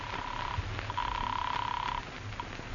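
A telephone rings over a phone line as an outgoing call is placed, heard as two thin, steady electronic tone bursts, a short one then a longer one, with muffled line noise in between.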